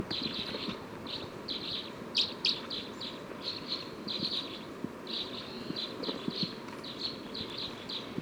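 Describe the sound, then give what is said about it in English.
A recording of bird number 306: repeated high, bright chirps in a steady series of short phrases, about a dozen bursts over eight seconds, sung above a dense, rumbling low background hum. “Stop. We're recording bird 306.”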